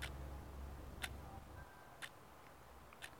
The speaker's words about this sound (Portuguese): Então, pessoal, eu trouxe aqui um relógio, certo? Isso aqui é um relógio, tá? E o relógio, ele tem esse batimento, é esse tic-tac.